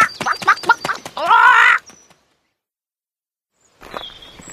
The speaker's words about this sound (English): The chicken is big. It's very big. Help!